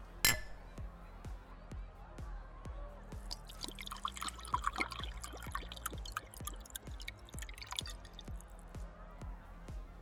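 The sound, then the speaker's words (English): Champagne pours into glasses, a steady liquid stream with fizzy crackling and rapid drip-like ticks scattered throughout, swelling briefly in the middle before settling. “Champagne? Here, hold this.”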